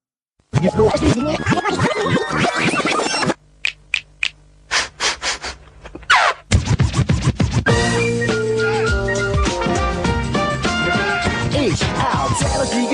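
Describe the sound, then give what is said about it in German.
A pop song written in 1996 for the 25th birthday of the Maus (Die Sendung mit der Maus) opens with loud, full-band music, breaks into a stretch of short, rhythmic record-scratching bursts over a low hum, then the dense, bouncy music returns with a beat. “Viele Musikstücke wurden für die Maus geschrieben und ein ganz besonderes, das hören wir jetzt aus dem Jahre 1996 zum 25.”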